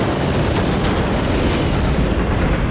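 A loud, sustained crash roar fills the whole stretch, a dense, boomy rumble with gritty noise on top that stays at steady volume without dying away. No voices are heard.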